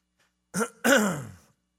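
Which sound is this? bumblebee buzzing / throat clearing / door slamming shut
throat clearing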